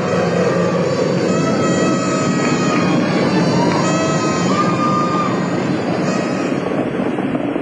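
Space Shuttle Challenger's rocket engines roar during ascent on the 25th Space Shuttle mission, throttling down to 94%: a loud, dense, steady rumble that fills the whole clip without letting up, with faint tonal hints of a radio voice beneath it.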